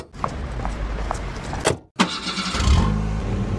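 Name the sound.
car engine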